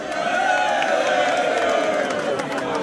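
An audience applauds with cheering mixed in, a loud, steady wash of crowd noise that holds at an even level for about three seconds.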